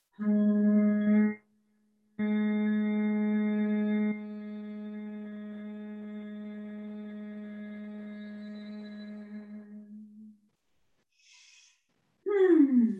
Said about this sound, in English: I'm feeling very relaxed, I've got to say, just from those few buzzy bee breaths out. The Brahmaharya breath.